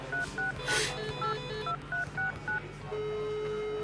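A phone number is dialed by touch-tone: about ten short beeping keypad tones in quick, slightly uneven rhythm, followed by a steady low ringing tone lasting about a second. No one speaks.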